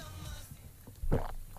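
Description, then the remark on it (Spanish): A single wet gulp of a person swallowing with a microphone brought up to them, a short muffled low burst about a second in, over a quiet low background hum with no talking. “Si me acerca el micrófono tiene que salir el tragar.”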